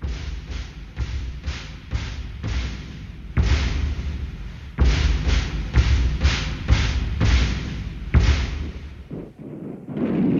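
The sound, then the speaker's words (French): Cannon fire from the Irish Free State army besieging rebels in the courthouse in Dublin in 1922 booms in a rapid, steady series of heavy blasts, each a loud thud with a rumbling tail, continuing for about nine seconds before a brief lull and a final low rumble. “Mais cette fois, les canons sont irlandais.”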